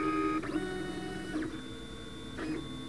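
A 3D printer prints a Freedom Brace, its stepper motors whining in layered tones with a sliding pitch sweep about once per second as the head changes direction. Moderately loud, no voices.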